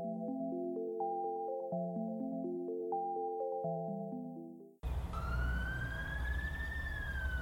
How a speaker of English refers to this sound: Did you hear that? Hear what? The siren.